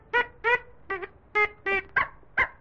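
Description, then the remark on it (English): A series of seven short, nasal quacks in a steady, slightly uneven rhythm, loud, like a squeaky toy duck sound effect for Happy Duck, a toy duck following Yip the little wooden dog, with no talking. “And just see who is following Yip. Happy Duck.”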